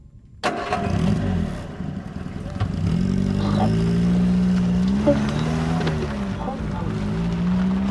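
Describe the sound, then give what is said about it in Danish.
A car engine turns over and catches, then settles into a steady hum that rises and falls in pitch as the vehicle pulls away and drives on, fairly loud; the car is driving between Randers and Helsingør. “Og allerede der i bilen mellem Randers og Helsingør begynder Kurts efterforskerhjerne at arbejde.”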